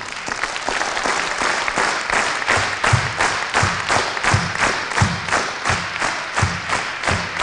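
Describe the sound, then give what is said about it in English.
An audience rehearsing for a song claps hands together in a steady, rhythmic beat, loud, with dense applause filling the space between the synchronized claps. “stop clapping your hands and stop saying yeah”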